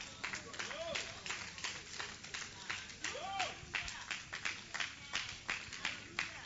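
An audience gives the Lord a clap offering, clapping together in a steady, fast rhythm of loud sharp slaps, with a couple of rising vocal whoops and shouts heard over the clapping.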